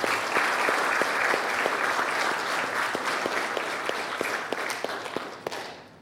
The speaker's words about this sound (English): And let us give a round of applause for the most newly baptized.